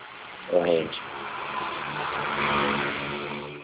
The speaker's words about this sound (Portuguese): Nossa, passou uma moto barulhenta aqui agora.